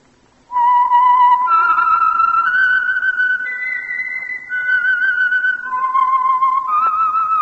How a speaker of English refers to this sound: And for Sunday evening listening pleasure, the signal to listen for is this whistle that identifies the Signal Oil Program, The Whistler.